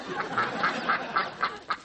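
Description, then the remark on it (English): A duck quacks repeatedly in a quick, steady series of about seven nasal calls, moderately loud, with no talking. “What are you quacking about?”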